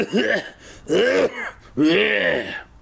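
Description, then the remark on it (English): A voice acts out an evil, dry laugh in three drawn-out, raspy bursts with short pauses between them, fairly loud, more like a throat clearing or a cough than a real laugh. “The ugly laugh escaped their mouths, an evil, dry sound, more like a throat clearing, more like a cough than a laugh.”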